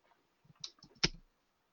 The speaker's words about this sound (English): I'm just typing an answer to Ruman, so I wasn't listening.